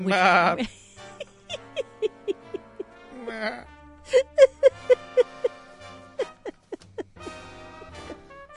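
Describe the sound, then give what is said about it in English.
People mimic sheep with their voices instead of using a sound effects library, a string of short nasal bleats in quick bursts, some overlapping, fairly loud, with a longer wavering baa at the start. “Yes, we do have a sound effects library, but that's not nearly as fun as doing it ourselves.”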